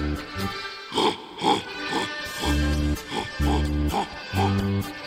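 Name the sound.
boar grunting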